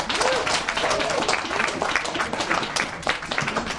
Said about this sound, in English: Can I ask you to give a wonderful big round of applause